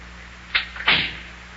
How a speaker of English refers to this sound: I'll just close the front door here so the cold air don't get into Big John's house.